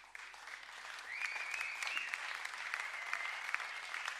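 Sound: audience applause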